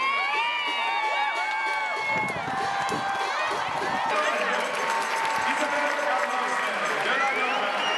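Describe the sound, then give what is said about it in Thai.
A big crowd of Thai football fans at the Thailand versus Norway match roars and cheers without letup as Thai goalkeeper Waraporn Boonsing saves Norway's penalty in the 75th minute, a dense wash of many voices with overlapping shouts and rising whoops, loud throughout. “โดยเฉพาะในช่วงที่โกของไทยวราพรบุญสิงห์สามารถเซฟลูกจุดโทษของนอร์เวย์ได้ในนาทีที่75ซึ่งกองเชียร์ไทยส่งเสียงเชียร์ดังสนั่นอัศจรรย์ดังยิ่งกว่าตอนที่นอร์เวย์ทำประตูได้สิครับ”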